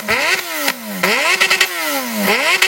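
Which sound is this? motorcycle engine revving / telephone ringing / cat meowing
motorcycle engine revving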